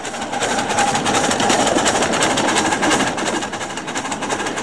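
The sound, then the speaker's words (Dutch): A coal-fired miniature ride-on steam train, a model you sit on rather than in, runs steadily on the Nienoord railway in Leek, Groningen, Netherlands, its wheels and engine making a continuous, fast rhythmic clatter with a hissing, mechanical edge and no talking. “Een model waar je niet in, maar op zit, zoals hier op dit model van de Nienoordspoorweg in het Groninger Leek.”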